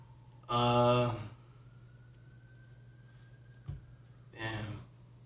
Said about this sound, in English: Mike's picking up the sirens and everything. Yep, it's all good. The LA sirens.